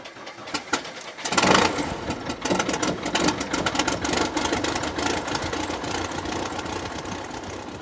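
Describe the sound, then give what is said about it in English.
A small plane's propeller engine at an air park cranks through a few uneven sputters, then catches at about a second and a half and settles into a steady, loud, rumbling idle with a buzzing drone. “And the safety check is just a good yell to get everybody out of the way. Clear prop.”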